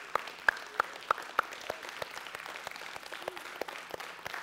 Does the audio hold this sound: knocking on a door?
no